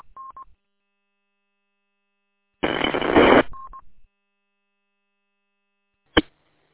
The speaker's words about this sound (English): If that was you, it was just a burst of static this time on this end.